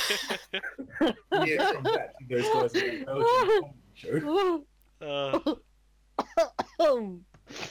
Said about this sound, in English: Coughing in a podcast. No, I apologize.